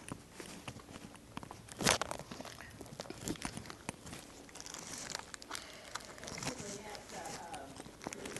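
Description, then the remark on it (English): A cough drop wrapper is unwrapped, with irregular crinkling and crackling plastic over several seconds and a sharper tear or snap now and then. “Let me get a cough drop.”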